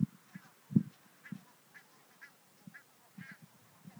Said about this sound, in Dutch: Ja, terwijl we hier nog een beetje verder lopen tussen de ganzen. Misschien kunnen jullie ze ook horen, maar ze zijn wel een beetje van ons weggelopen.